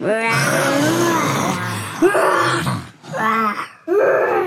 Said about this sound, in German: Die Kinder bewegen sich in die Richtung davon und das Löwenbrüllen wird immer lauter.